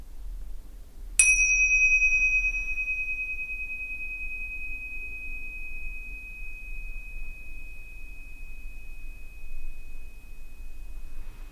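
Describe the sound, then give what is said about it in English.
A single meditation bell is struck once to begin a guided open-awareness meditation, giving a clear bright chime that rings on and slowly fades over several seconds over a low background hum. “When you hear the bell, we can begin.”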